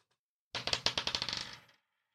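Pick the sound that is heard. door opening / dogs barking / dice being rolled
dice being rolled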